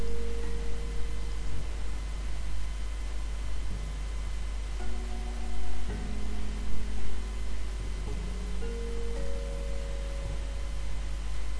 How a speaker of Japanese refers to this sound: その方法とは、ほら聞こえませんか、 自宅にいれば必ず聞くことになるあの音色、訪問者の声、チャイム。